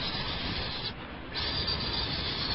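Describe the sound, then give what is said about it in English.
A voice produces a long, steady voiceless hiss, the American English S sound, like a sustained S, briefly thinning for a moment partway through before resuming just as strongly; no words are spoken. “In American English, it's a very soft and high-pitched hiss. It's like the high-pitched hiss of steam escaping.”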